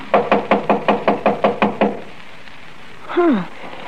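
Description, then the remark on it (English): A quick, steady run of about ten loud knocks on a door, followed by a pause and then a brief voiced sound with falling pitch. “Why don't you try the door? It was unlocked.”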